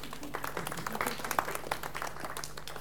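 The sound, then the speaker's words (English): A small audience applauds, with a steady patter of overlapping claps lasting a few seconds at moderate volume and a faint hum underneath; nobody speaks. “Round of applause for Richard there.”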